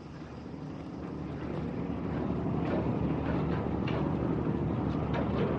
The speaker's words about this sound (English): The relentless noise of automobile traffic is temporarily overshadowed by the growling engines of ferries leaving the port of Pylia.